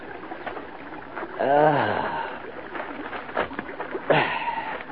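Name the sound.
flowing stream water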